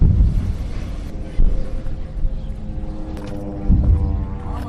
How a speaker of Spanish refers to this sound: Explosiones en Rafah, al sur de la franja, que venían acompañados de ese sonido también que escuchábamos de aviones sobrevolando Gaza.